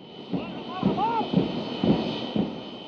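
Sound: jet airliner landing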